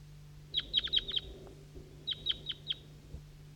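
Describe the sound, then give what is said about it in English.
Two or three wild birds chirping from the top of a maple tree at almost 8 a.m., a quick run of about six high, sharp notes followed by a shorter burst of four, over a low steady background hum. “Two or three wild birds calling from the top of the maple tree.”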